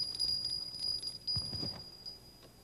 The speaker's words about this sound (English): I guess Hen must have taken her new bell inside. I'll just ring the old one.